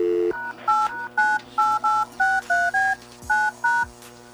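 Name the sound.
telephone keypad dialing tones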